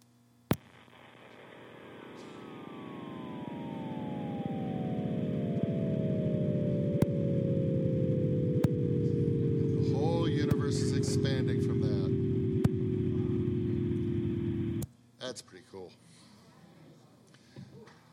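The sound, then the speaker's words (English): A sonified echo of the Big Bang, heard by tuning down into the microwave region: a loud, droning, harmonically rich hum that slowly slides downward in pitch for about fourteen seconds, with a few faint clicks, then cuts off abruptly. “And as a matter of fact, if we tune down into the microwave region, we can still hear the echo of the Big Bang.”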